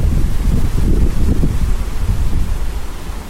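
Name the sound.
strong wind gust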